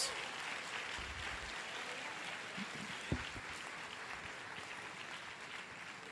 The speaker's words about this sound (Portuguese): Deus faz coisas sobrenaturais. Pode aplaudir a Jesus.